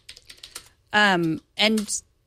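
A quick run of crisp, clicky keystrokes on a wireless typewriter-style keyboard patters for about a second, followed by two loud, drawn-out vocal sounds.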